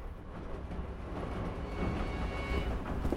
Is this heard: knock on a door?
no